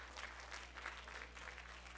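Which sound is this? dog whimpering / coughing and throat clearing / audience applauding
audience applauding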